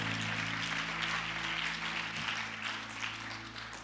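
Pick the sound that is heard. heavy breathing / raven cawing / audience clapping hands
audience clapping hands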